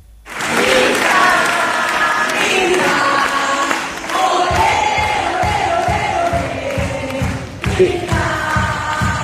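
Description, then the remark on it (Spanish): A theater audience at the Roxy theater bursts into a loud, sustained ovation of cheering and applause, which about halfway through settles into steady rhythmic clapping in unison beneath continuing shouts. “Ah, ovación, chicos, qué locura. Se caía el teatro Roxy.”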